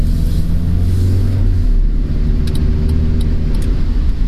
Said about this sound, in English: Okay, I am... at the intersection. Oh, this car is coming really fast. I hope it'll stop.